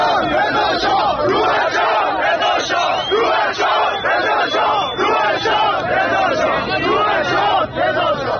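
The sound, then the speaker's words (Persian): A large crowd of protesters at a demonstration in Qom, Iran, chants slogans in unison, voices rising and falling in a steady rhythmic cadence, loud and continuous throughout with a dense roar of many shouting people. “در تظاهرات قم امروز تظاهرکنندگان شعارهایی مانند تظاهرکنندگان روز گذشته در مشهد سر دادند.”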